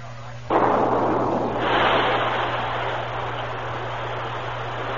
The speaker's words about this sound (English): The men have the dynamite charge all set. Good. Set it off.